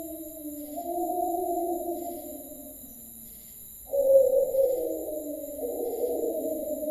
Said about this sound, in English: What the hell was that? Our friend the wolf again.